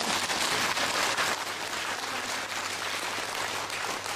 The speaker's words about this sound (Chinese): 有呢，掌声啊。